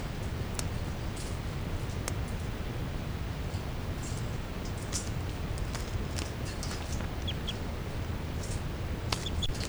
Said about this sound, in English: Now all the birds are calling, stop.